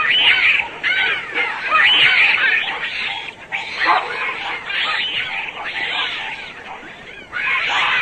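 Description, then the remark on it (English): A dense, continuous chorus of high-pitched squeaks and chirps from many infant bats in a colony, overlapping calls filling the whole clip at a steady, fairly loud level. “For example, the familiar squeaky sounds heard in a colony of infants.”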